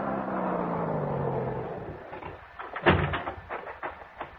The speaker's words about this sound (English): And I heard it. The hot rod coming down the soggy wagon road.